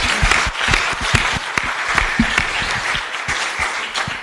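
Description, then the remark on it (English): An audience at a panel discussion bursts into sustained applause for the founding members, many hands clapping densely and loudly for several seconds with no voices standing out. “I think that we need to give them another big round of applause for the work you've done.”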